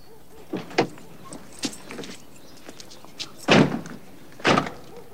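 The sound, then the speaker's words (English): Car doors click open and thump shut as two men get out of a car pulled over on a tree-lined street opposite a townhouse: a string of sharp knocks and latches followed by two louder, heavier slams, with no voices over them. “He and Philip get out of the car and cross the road.”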